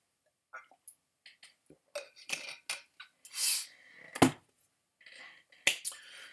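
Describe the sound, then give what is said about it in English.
Someone takes a quick drink of water: scattered small clicks and bottle taps, a soft gulp and swallow, a sharp clink, then a breathy exhale, with no talking. “Swig of water real quick.”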